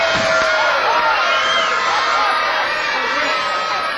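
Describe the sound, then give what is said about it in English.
A large audience at Concerts by the Sea in Redondo Beach, southwest of Los Angeles, cheers and whoops continuously during a live New Year's Eve jazz broadcast, a dense roar of many voices with occasional higher shouts standing out, loud and sustained throughout. “And we have a crowd that's ready for some music.”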